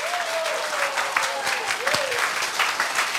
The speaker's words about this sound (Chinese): 要不要给这个比尔古德先生热烈掌声鼓励一下？